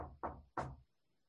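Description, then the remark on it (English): Someone knocks on a door three firm times in quick succession, fairly loud with a hollow, resonant thud, followed by a brief quiet stretch. “Excuse me for a minute, somebody's knocking on my door.”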